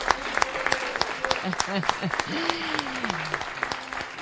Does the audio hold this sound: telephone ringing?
no